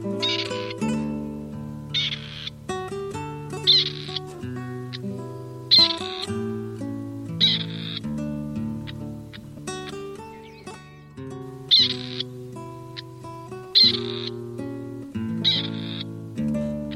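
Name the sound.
grey partridge calling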